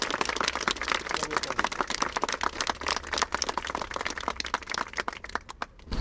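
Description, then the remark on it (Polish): A crowd applauds steadily for about six seconds in thanks to all the hospital's staff, many hands clapping in a dense, crackling patter that stays fairly even before tapering slightly at the end. “Brawo! Brawo!”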